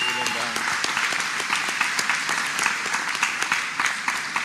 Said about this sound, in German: Von daher, lasst uns hier mal wirklich mit einem ganz warmen Applaus wirklich beide begrüßen hier.